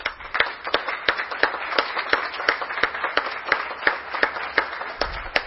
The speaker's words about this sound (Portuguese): Então, por isso, eu gostaria que nós dessemos uma salva de palmas aos nossos homenageados e também uma salva de palmas à nossa corporação da Polícia Militar e à instituição Polícia Civil de Garça.